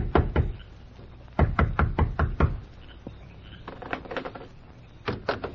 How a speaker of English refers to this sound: Although it was late at night, the door of the sheriff's home echoed with a loud knock.